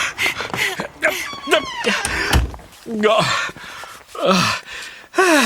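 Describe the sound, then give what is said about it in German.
A door, not a through-door, in a dark place opens and thuds shut partway through, a single dull knock, surrounded by voices making short expressive vocal sounds and exclamations. “Moment mal, das ist gar keine Durchgangstür.”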